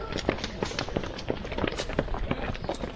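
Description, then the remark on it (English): Many students run on a hard surface, fleeing in various directions from their campus in Kenya during an attack, recorded on a mobile phone: a dense, irregular patter of pounding footsteps that continues without pause, with faint, indistinct voices in the background. “One of the students who sought anonymity using a mobile phone shared with me sounds of pounding footsteps of students as they ran in various directions from the campus.”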